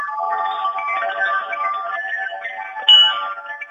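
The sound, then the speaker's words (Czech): Carillon bells ring out through a small phone speaker, overlapping tones blurring together with a tinny, band-limited sound, steady for several seconds with a slightly louder strike near the end. “Můžu zazvonit? Ono to teda bude z telefonu, nevím, jak to bude znít, ale...”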